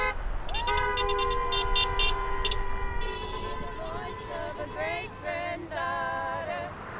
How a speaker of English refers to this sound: The self-proclaimed water protectors honked horns, hollered, and sang on the highway near the Ocheti Chacoan camp in North Dakota Sunday. The celebration came after hearing the news.